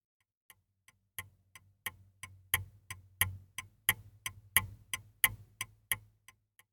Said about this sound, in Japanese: これは時計です。それも時計です。